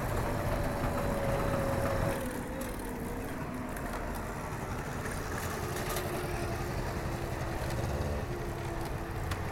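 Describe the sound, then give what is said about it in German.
A moped's small engine runs steadily with a buzzing drone, dipping in pitch after a couple of seconds as it pulls away from a greengrocer's, over rough, windy background noise. “Das Objekt fährt vom Gemüsehändler los. Sein Moped fährt ja zum Glück nicht so schnell.”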